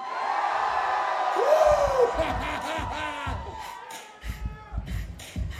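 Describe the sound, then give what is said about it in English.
A large crowd roars and screams in a sustained wall of noise, with one voice whooping above it and heavy low thumps pounding beneath, fading slightly before surging again. “Does everybody scream?”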